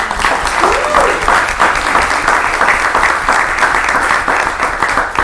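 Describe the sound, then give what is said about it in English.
A crowd claps to welcome newcomers to a school, among them the new high school assistant principal, Mrs. Jennifer Mangone: a dense, sustained wash of applause lasting several seconds, fairly loud and even throughout, with a faint voice rising briefly near the start. “Please, when I state your name, if they're here, please give a round of applause.”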